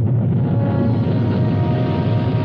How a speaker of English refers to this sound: Progress is the sound of a motor, the hum of a turbine, the heartbeat of a factory, the sound of a symphony, the roar of a rocket.